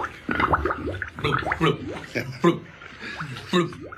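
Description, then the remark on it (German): A voice imitates an old carp named Cyprinus blubbering loudly while swimming, with an air bubble rising from its mouth at each blubber: a run of wet, gargling bubble sounds in uneven bursts, some rising in pitch, fairly loud and without any spoken words. “Beim Schwimmen liebt er es, laut vor sich hin zu blubbern.”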